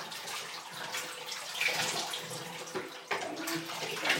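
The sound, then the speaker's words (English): Water runs steadily into a bathtub while an animal is being bathed and rinsed, a broad rushing splash with a few sloshing shifts and bumps. Moderately loud, with no talking. “Yeah, I'll rinse it now. Put your dead face to your side. I'll be emptying it as well.”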